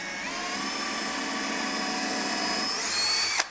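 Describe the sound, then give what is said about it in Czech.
A power drill whines steadily as it bores into wood, drilling a hole for the string that holds a wooden ball, at a station where children do the drilling; its pitch rises slightly near the end before the motor cuts off abruptly. No one speaks. “A do třetice vyvrtají dírku pro provázek, který právě drží ten dřevěný míček, aby nám nelítal po celé místnosti.”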